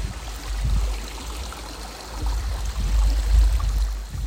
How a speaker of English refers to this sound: And there's sort of two waterfalls side by side and then a lower waterfall down at the bottom. And this is what they sound like.